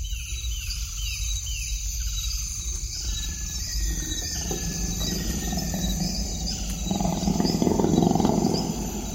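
tiger roaring

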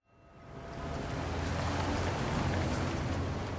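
rain falling

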